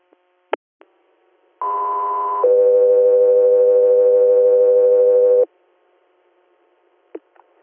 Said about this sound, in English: Guthrie Air, stand by for tones.